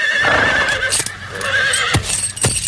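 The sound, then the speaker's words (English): A brumby horse whinnies with a wavering, high-pitched call while hooves clop in sharp, uneven strikes, the sounds fairly loud with no talking. “We've actually got a couple of brumbies on this trip that were trapped from national parks.”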